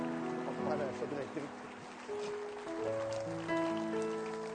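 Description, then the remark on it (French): An audience at a church service applauds the Lord in a steady, dense wash of clapping that lasts throughout, mixed with voices and sustained musical tones held over it. “Allez, applaudissez fort, rien de plus beau que l'engagement de Dieu.”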